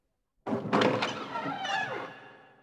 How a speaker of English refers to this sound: Sir Lancelot strode to the door and flung it wide open.